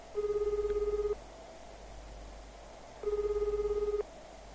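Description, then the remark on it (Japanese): A mobile phone call's ringback tone rings twice, each a steady, slightly warbling one-second burst separated by a pause of about two seconds, heard alone against a faint low hum. “無機質な呼び出し音が3回、それから事務的な留守電のメッセージが流れた。”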